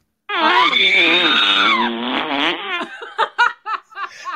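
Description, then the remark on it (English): A loud comic fart sound effect, the "R2-D poo" from a Fart Wars fart pack: a long, warbling, pitch-wobbling blast lasting about two seconds, then a string of short sputtering bursts, with no talking. “My point being, if you would have told me as a young boy that, hey, these farts that I think are so funny, I'm going to make $1 million on it one day, I would have said, you're insane.”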